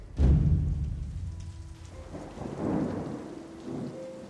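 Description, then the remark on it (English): Steady rain falls with a soft, hissing patter, opened by a deep, loud rumble of thunder that slowly fades beneath the downpour. No one speaks. “It was then that Edom felt the first touch of rain against his skin.”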